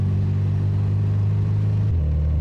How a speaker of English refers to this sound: You're driving, right? I can hear the engine.